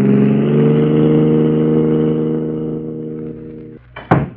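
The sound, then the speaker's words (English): A car engine revs and holds a steady, throaty drone, gradually easing off as it pulls away, ending with a sharp clunk just before the close. “We gotta ditch this car and get away from here.”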